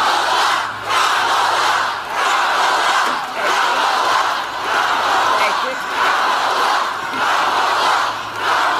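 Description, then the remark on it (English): A large crowd at a rally for Kamala Harris roars and shouts in loud, rhythmic surges, rising and falling roughly every second or so, a dense wall of excited voices filling the whole clip with no single speaker standing out. “I don't know if you heard this one, but this crowd was all amped up”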